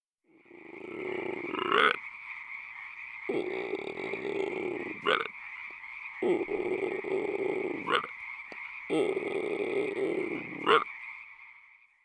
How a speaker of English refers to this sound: It's a frog.